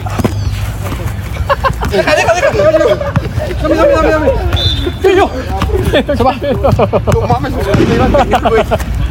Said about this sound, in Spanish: Para la gente que nos sigue en la radio, están jugando tenis balón y de repente se oye la explosión. Se oye muy fuerte a pesar de la distancia. O sea, esto nos da una dimensión de lo potente que fue ese petardo que explotó ayer